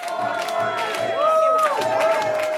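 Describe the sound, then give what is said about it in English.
An enthusiastic crowd cheers steadily as it welcomes incumbent Mayor Gene Kwan at a campaign celebration at Scott's Seafood in Jack London Square. Many voices whoop and shout over a dense babble, with rising and falling excited calls and scattered claps throughout. “At Scott's Seafood in Jack London Square, an enthusiastic crowd welcomed incumbent Mayor Gene Kwan.”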